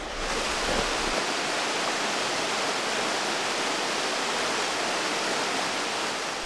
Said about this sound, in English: The sound of the waves crashing into the rocks below, paired with the light surrounding fog, was peaceful.